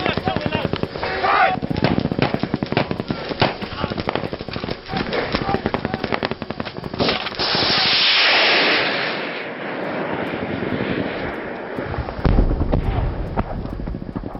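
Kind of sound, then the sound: impact, gunfire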